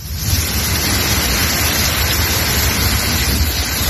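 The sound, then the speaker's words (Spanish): Heavy rain pours down in a steady, dense roar, a constant loud hiss of water with no breaks and no voices, on a Tuesday afternoon in Castellón, in a storm that flooded streets, swept cars along and dropped over 50 litres per square metre in 40 minutes. “Así sonaba en la tarde de este martes Castellón, donde en cuestión de minutos cambiaban el calor abrasador por una lluvia que ha llegado a arrastrar coches por calles completamente anegadas tras recibir más de 50 litros por metro cuadrado en 40”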